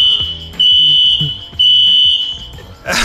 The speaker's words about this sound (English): As you can tell, the fire alarm is still going off. They are so loud. It's so annoying. They are so loud.